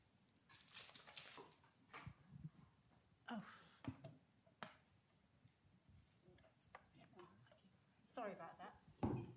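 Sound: dog whimpering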